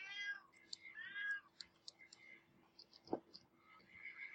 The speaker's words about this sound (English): Yeah, because no one has the time or energy to cut out all those goddamn meows. I don't want to cut out all the meows